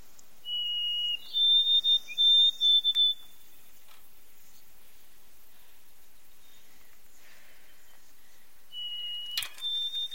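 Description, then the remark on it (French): A person whistles an imitation of the call of the bird called the Whistler of the North: a steady lower note sliding up into a few short, higher chirps, then a long silence before the call is briefly repeated at the end. “C'est des oiseaux qui font un son. Comment ils font là?”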